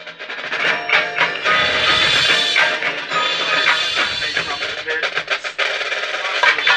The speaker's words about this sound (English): Much closer there, snares and tenors, combined phrase.